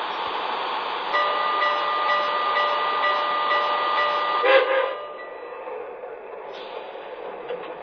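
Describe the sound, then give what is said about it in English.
A passenger train, train number 22 on track 2, for Chicago, rumbles steadily, with a sustained high tonal whine layered over the noise for several seconds, then a brief hiss before the sound settles to a quieter idle. “Chicago on track 2, train number 22, the Manhattan Limited.”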